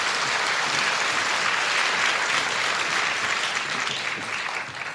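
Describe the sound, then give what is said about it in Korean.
Sustained applause from a large audience for a choir after its performance, a dense steady clatter of many hands clapping at an even loudness, tapering slightly toward the end. No voices stand out. “수고하신 합창단에게 다시 한번 박수 부탁드리겠습니다.”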